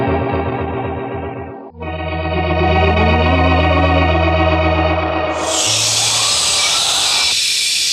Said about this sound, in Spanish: La sección del muro se parte en mil pedazos y surge un aire caliente convertido en vapor capaz de calcinarlo todo.